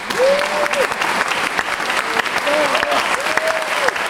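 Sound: concert audience applauding enthusiastically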